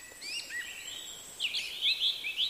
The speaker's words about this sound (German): in die Natur zu gehen, dem Gesang der Vögel lauschen, die am Morgen den Tag begrüßen.